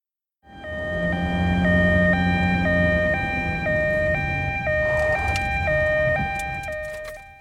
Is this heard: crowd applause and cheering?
no